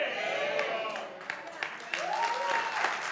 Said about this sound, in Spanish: ¡Abre ese aplauso!